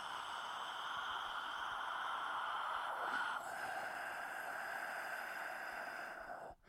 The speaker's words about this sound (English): Inhale. Exhale, breathing.